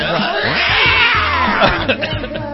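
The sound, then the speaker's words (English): Loud, drawn-out cat caterwauling yowls through a played song, with wavering, sliding wails layered over dense music for the whole short stretch. “Is that like a cat?”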